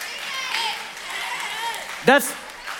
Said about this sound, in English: Like if you're clapping because it says sex up there, but you're doing it in the wrong order, you need to stop clapping.